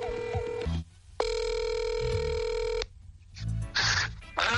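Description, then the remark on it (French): A phone call being placed to a VO Afrique correspondent in Belgium: steady electronic ringback tones ring out in long, evenly spaced bursts with brief pauses between them, clear and fairly loud, followed by a short burst of line noise. “qu'on va rejoindre au téléphone en ce moment.”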